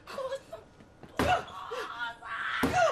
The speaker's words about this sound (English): It's a door.